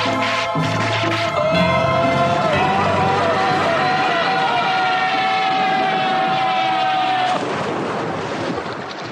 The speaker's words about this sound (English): And then at the same time, it's absurd because you're also hearing like an airplane crash, you know, a sound effect that is not happening at all. It's sort of just like adding to the noise of everything going on.